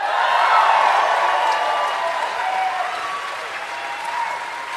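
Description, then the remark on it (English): A crowd applauds steadily after a speech, a dense wash of many hands clapping at once that stays loud throughout and eases off slightly toward the end, with no voices standing out. “That's how you make them clap.”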